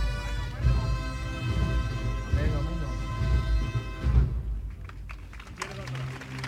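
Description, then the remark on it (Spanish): Scattered clapping breaks out in front of the parish of Beata Ana María as the paso of the Misterio del Divino Perdón de Alcosa is lowered there. It follows a stretch of sustained, tonal music, with crowd voices mixed throughout and the claps growing more distinct toward the end. “Las palmas que arrancan aquí frente a la parroquia de la Beata Ana María después de esta hermosa chicotá que ha plantado al misterio del divino perdón de Alcosa frente a su parroquia.”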